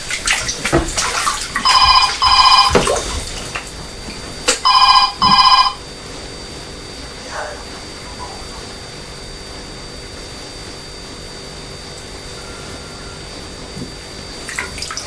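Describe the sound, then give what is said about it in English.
A child splashes water in a bathtub with a steady wash of noise throughout, while a telephone rings twice in short bursts early on; no one speaks. “Do you want to get out yet? Yes. Hello. All done? No. No, not all done. Just be careful with the water.”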